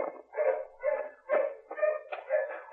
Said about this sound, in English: Dogs are getting closer